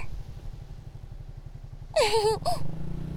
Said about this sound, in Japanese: だいぶ慣れてきました。バイク、風が気持ちいいですね。